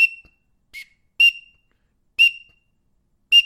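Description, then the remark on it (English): Five short, sharp whistled peeps blown on a green-winged teal call, a whistle with a small megaphone-like end, imitating a male green-winged teal; clear, each with a breathy attack, spaced irregularly with silence between them and no talking. “That's what a teal sounds like.”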